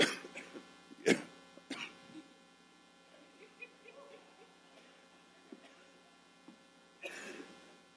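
Sharp coughs: two quick bursts near the start, then a quiet stretch with faint rustles before a final harsh cough near the end.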